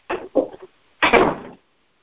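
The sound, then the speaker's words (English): A door shuts: two quick clunks from the latch, a short pause, then a fuller, rattling thud as it closes, with no one speaking. “The door closed.”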